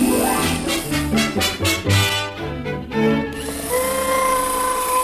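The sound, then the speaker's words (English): An electric drill runs loud, starting with a series of rapid revving bursts before settling into a steady, high-pitched motor whine. No one speaks. “You've got your ladder right against the cord to my drill.”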